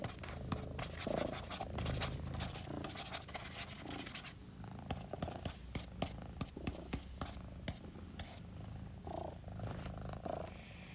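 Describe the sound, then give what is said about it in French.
A cat purrs steadily, a continuous low rumbling vibration with occasional faint scratching and rustling movements mixed in, no voices present. “Ce chat, lui, a mieux compris l'enjeu que toi, on dirait.”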